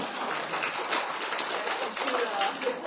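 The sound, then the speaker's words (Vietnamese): An audience in a hall claps steadily, a dense crackle of many hands that holds an even, fairly loud level for the whole stretch, with no clear voices standing out. “Trước hết cho tràng pháo tay quan ơn.”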